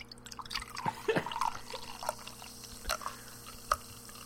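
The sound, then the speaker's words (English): A drink is poured into a glass in short, sputtering glugs and drips, fairly quiet, with a faint steady hum underneath and no talking. “Okay, let me pour you some.”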